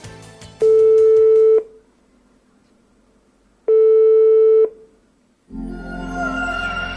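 A telephone ringing tone from a call being placed sounds twice, each a steady one-second electronic buzz separated by a long pause, clear, before a burst of louder background noise takes over.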